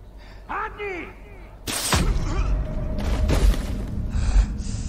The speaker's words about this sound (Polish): Przywódca zabity? Strzały latają, matko!